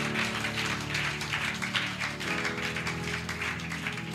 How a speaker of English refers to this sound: Now, if you are somebody here and you find yourself in any of these areas and indeed you need a reset, I want you to clap your hands for Jesus.